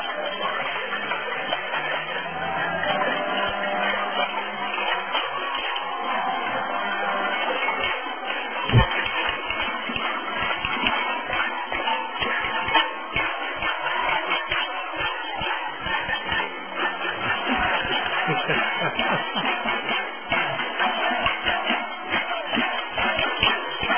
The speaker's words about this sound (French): on va avoir les casseroles à chaque émission jusqu'à ce que ces manifestations s'arrêtent au Québec